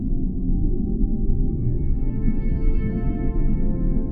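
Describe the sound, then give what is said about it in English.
A low, steady song of a female whale with layered tonal calls that slowly rise and brighten midway, droning continuously and moderately loud with no voices. “Imagine yourself touching her, this gorgeous whale.”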